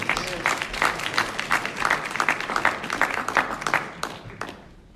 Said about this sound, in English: Give God a hand clap.